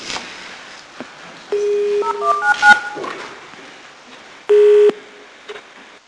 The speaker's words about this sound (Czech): poprosím předsedu vlády, aby vytočil číslo 199 a provedl první telefonát na protikorupční linku